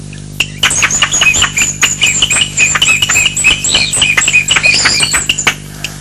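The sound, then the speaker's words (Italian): Many brightly feathered birds chirp and tweet continuously in a dense, overlapping chorus of high, rapid calls, fairly loud, with no talking over them. “Le piume di questi uccelli sono molto colorate e tutti gli animali gliele invidiano.”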